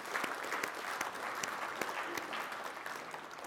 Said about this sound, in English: Church, can we just applaud the Lord Jesus this morning? Come on, man.